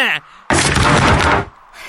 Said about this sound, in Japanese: 何事だ？今の爆発は何だ？